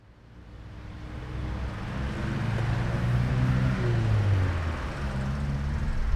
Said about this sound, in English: So I've just got off the bus and I'm walking towards the Eliava Institute here in Tbilisi. It's a noisy enough walk next to a main road, but it's a pleasant enough view of the river.